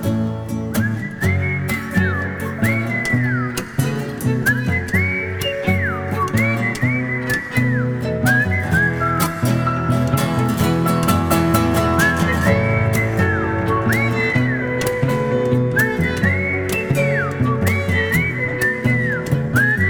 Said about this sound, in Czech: A kdo umí pískat, může pískat.